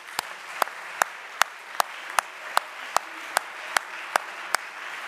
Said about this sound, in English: Glory to God. Can we give a hand clap to God now?